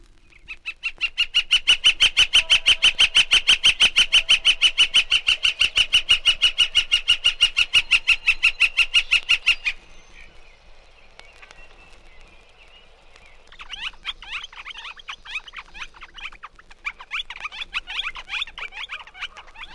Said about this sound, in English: The flicker, or golden-winged woodpecker, has a variety of notes, but reserves its flicker-flicker call until two birds are together.